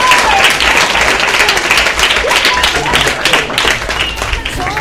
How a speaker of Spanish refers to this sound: y un aplauso para él.